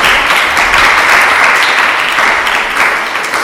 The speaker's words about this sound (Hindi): Hallelujah, यीशु मसीह के नाम की, यीशु के लिए जरा जोरदार तालियां देंगे।